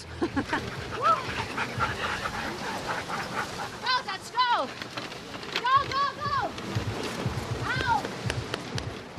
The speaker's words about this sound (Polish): Wszystko wygląda bardzo prosto, bo ja stoję na wózku, a psy go ciągną. Ale nie jest tak łatwo, bo tak naprawdę musisz iść z nimi, biec z nimi, a nawet płakać z nimi.